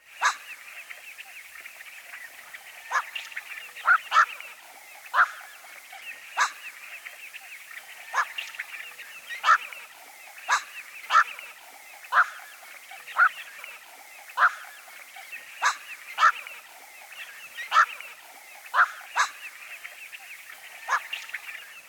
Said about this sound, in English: One of the folk names of this species is quawk bird, a name which comes from its harsh, barking, quawk, quawk. This call is often given in flight at dusk. Here's the black-crowned night heron again.